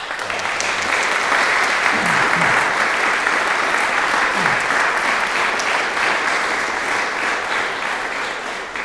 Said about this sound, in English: So for all of those organizations, they deserve a round of applause.